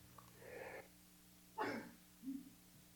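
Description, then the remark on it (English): A single sneeze from a person: a drawn-in breath, a brief pause, then a sharp explosive burst followed by a short, softer trailing sound. No one talks. “Of course, that'd have been funny watching everybody sitting in their chairs and all of a sudden jumping back when I sneezed.”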